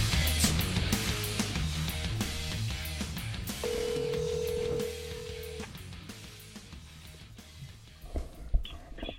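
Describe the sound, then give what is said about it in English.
A single steady ringback tone lasting about two seconds sounds partway through, as an outgoing phone call to a guitar player rings out over a busy, loud music bed; no one speaks. “It's ringing.”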